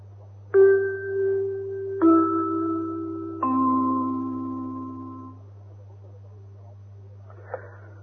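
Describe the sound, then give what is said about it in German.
A gong chime sounds three bell-like tones, each struck about 1.5 seconds apart and stepping down in pitch, ringing out and slowly fading over a steady low hum, used to introduce the weather segment of a radio bulletin. “Und den Wetterblock läuten wir ein mit einem Gong.”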